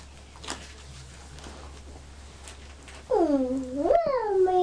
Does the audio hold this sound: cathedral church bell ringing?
no